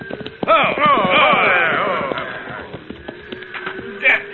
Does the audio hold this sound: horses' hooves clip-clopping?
yes